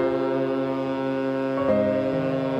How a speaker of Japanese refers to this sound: 聞こえるはずのない汽笛が聞こえた。